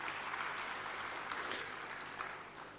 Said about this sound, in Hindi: और एक बार जोरदार तालियां।